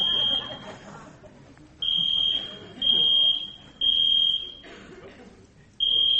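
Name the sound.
fire alarm going off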